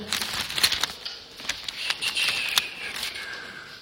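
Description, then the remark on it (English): Steady rustling and crinkling of paper being deliberately rustled, with sharp little crackles and snaps scattered through a few seconds of continuous handling. No voices. “I'm just going to go back and rustle the paper for the purposes of the tape so it sounds like I'm actually knowing what I'm doing.”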